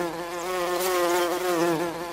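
A continuous insect-like buzz in a song drones steadily for about two seconds, fairly loud, its pitch wavering slightly like a circling fly. No voices are heard.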